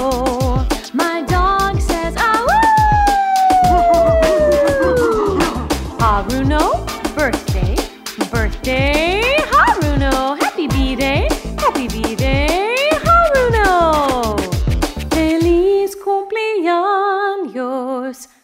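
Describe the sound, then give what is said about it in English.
A dog howls loudly in long, wavering cries that slide down in pitch, repeated across the stretch over a steady rhythmic backing beat. “My dog says, to you, Haruno.”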